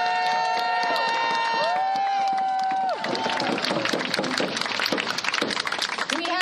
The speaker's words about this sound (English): As you can see from those standing, we've got the mayor of Hoquiam. Let's recognize her and give her a round of applause for joining us.